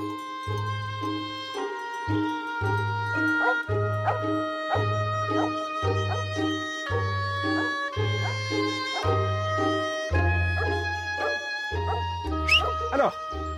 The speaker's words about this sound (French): Ça, c'est votre chienne, c'est Urga qui va renifler partout.